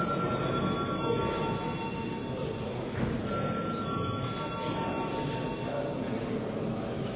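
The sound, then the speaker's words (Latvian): A chamber bell in the Latvian parliament rings continuously and insistently for several seconds, calling deputies to vote on a draft decision, a steady loud electric jangle over a faint murmur of the room. “Lūdzu, deputāts, balsot par lēmumu projektu, lūdzu zvanu.”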